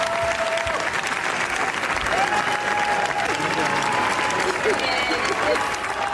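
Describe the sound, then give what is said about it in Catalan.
Sustained, dense applause from a large crowd at the Cannes film festival, one of the longest ovations in the festival's history, continues steadily, with scattered cheers and whistles rising above the clapping. “Després de rebre una de les ovacions més llargues de la història del festival, ja és una de les més fermes candidates a la Palma d'Or.”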